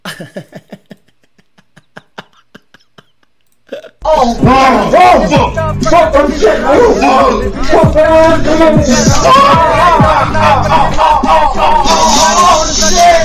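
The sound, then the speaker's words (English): A loud music mashup kicks in after a few seconds of sparse clicks, with layered tracks and vocals whose beats per minute match, stacked over one steady, driving beat that continues to the end. “Wait a minute, it matches. Oh my god, the beats per minute match”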